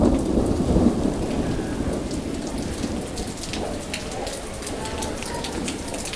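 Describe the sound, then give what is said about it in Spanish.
Heavy rain pours down steadily, a dense hiss of drops pattering on a hard surface, with a deep rumble underneath that is loudest in the opening second. No one speaks. “Llovía copiosamente y Laura descendía por las escalinatas de la facultad.”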